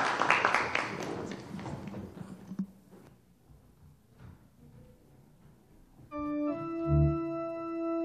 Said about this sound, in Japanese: 皆さんもう一度拍手を持って祝福してください。